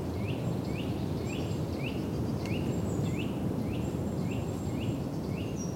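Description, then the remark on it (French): Steady wind rumbles over the vast marshland of Lac de Cousseau under a greying sky while a bird repeats short rising chirps in a quick, even rhythm, with thin high whistles from other birds. “Du vent, des oiseaux.”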